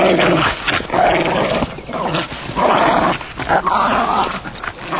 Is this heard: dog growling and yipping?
yes